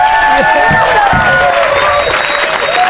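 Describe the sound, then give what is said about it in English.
A live audience breaks into sustained applause for everybody, dense clapping mixed with cheers and whoops, loud for the whole stretch. “Let's have a round of applause for everybody.”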